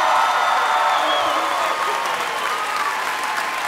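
A studio audience applauds and cheers in a steady, dense roar of clapping, loud and sustained throughout, with faint whoops rising above the hands.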